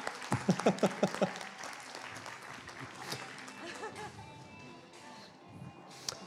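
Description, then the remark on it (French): An audience claps steadily, welcoming guests onto the stage for a round-table discussion, a dense crackle of many hands that carries on for several seconds, with a voice briefly audible over it at the start. “Merci de les applaudir chaleureusement.”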